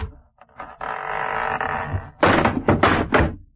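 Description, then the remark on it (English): A wooden porch door creaks loudly for a moment as it is opened, then falls right off its hinges and crashes down with a rapid series of heavy thuds and clattering bangs, with no voices. “That door need a little tightening up, too. It fell right off.”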